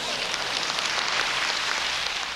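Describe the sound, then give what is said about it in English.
A crowd claps steadily after a diatribe, a dense, even wash of many hands with no pauses or peaks and no voices. “It is truly amazing to hear applause after a diatribe which bludgeons not only those who need our love the most, but the embodiment of love itself, our Heavenly Father.”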